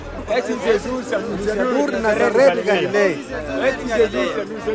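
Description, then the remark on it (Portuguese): A crowd of many people responds, talking and calling out at once, a dense, steady babble of overlapping speech with no single voice standing out, holding a fairly loud level throughout. “Multidão de gente responde eles.”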